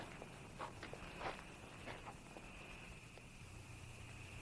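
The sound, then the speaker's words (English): Quiet footsteps of a man walking down a sidewalk toward a crowd scuff along pavement at a slow, uneven pace, several soft steps fading somewhat over time, with a steady high-pitched hum droning in the background. “Man walks down the sidewalk toward them.”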